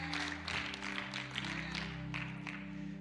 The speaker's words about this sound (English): Some of you just gave a nice golf clap because you're looking at this like you would look at prayer.